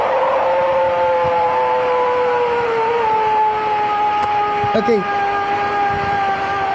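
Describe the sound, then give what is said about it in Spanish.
A long, sustained howling roar, said to come from a large, hairy creature that lives in the forests of the region, holds a steady tone that slowly sinks in pitch over a hissy background, with a short spoken word breaking in briefly near the end. “Ahí está el rugido.”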